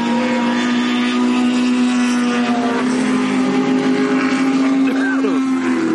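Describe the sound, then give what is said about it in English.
Race cars on a track produce a loud, steady engine drone with a sustained high whine, and near the end one car sweeps past with a quick shift in pitch. “And this way they're limiting the number of cars on the track at once in a race.”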